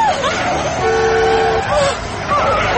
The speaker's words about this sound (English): Listen. Do you hear that? Holy shit, it's our truck. They've killed Trigger and now they're after us. Oh no. Ah, they're going to mow us down.